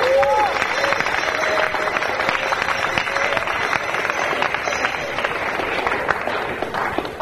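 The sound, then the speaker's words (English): A crowd applauds steadily and fairly loudly for several seconds, dense overlapping claps, with a brief whistle-like tone near the start, as the audience at a devotees' event gives a round of applause. “Please, everyone, round of applause.”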